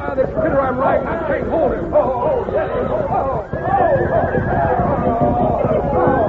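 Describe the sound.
At night in Antelope Basin, palomino horses ridden by 18 cowpunchers neigh and whinny over and over, their high, wavering cries overlapping loudly for several seconds, with a murmur of voices and commotion underneath.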